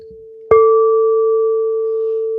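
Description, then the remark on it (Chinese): A fairly small singing bowl made of crystal or quartz is struck once with a wooden stick, giving a sharp knock followed by a loud, pure, mid-pitched ring with a bright overtone that sustains and fades slowly. No one speaks. “如果你用木棍去敲呢吓”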